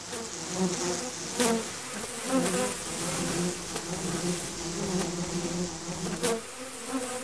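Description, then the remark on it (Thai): A dense, continuous drone of many honeybees buzzing at Illawarra Beekeepers, an apiary in the south of Sydney, Australia. It is a steady hum with harmonic layers and occasional louder passes as individual bees fly near, with no voices. “อิลาวูราบีคีเปอร์สเป็นแหล่งเลี้ยงผึ้งซึ่งอยู่ทางตอนใต้ของนครซิดนีย์ที่นี่คือที่รวมตัวของผู้ที่สนใจและต้องการเรียนรู้เกี่ยวกับการเลี้ยงผึ้งและการผลิตน้ำผึ้ง”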